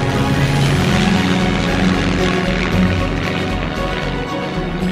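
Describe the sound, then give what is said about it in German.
A propeller airplane drones loudly and steadily overhead, its engine giving off a throbbing, buzzing hum that holds constant throughout without fading or building. “Das Flugzeug wurde erfunden.”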